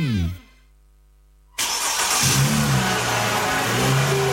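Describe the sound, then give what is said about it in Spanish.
A car engine winds down, falls silent for about a second, then bursts back to life and revs loudly and steadily, a full throaty roar with no talking. “Este año, el motor de tu auto no solo te mueve a ti, también levanta a cientos de familias afectadas por los incendios forestales.”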